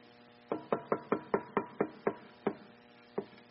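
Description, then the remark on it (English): About ten sharp knocks rap on a door, a quick run of raps that gradually slows and ends with a final lone knock. The knocking is fairly loud, and no one speaks. “In the same way, when you see all these things, you can know his return is very near. Right at the door, it says.”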